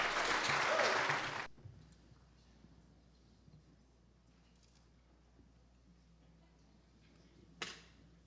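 A short, loud burst of applause at First Baptist Church for baptism candidates making their way up to the baptismal tank; it lasts only a second or two and then cuts off abruptly, leaving a low, quiet hum and one brief sharp noise near the end.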